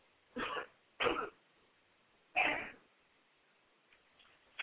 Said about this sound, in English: And excuse me for a minute, I want to cough.